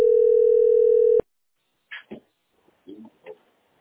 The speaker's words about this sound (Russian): Вот робот звонит. Вот робот. Вот робот.